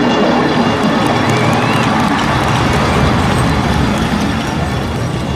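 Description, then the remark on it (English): A huge crowd inside a giant dome roars and cheers its approval continuously, a dense, loud wall of voices and applause-like noise that stays steady throughout without any single voice standing out. “The giant dome split down the middle, the two halves dividing to reveal a massive crowd, all cheering their approval.”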